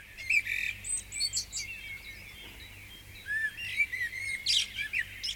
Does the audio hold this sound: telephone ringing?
no